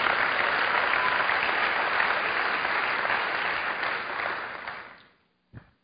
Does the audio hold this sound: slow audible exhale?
no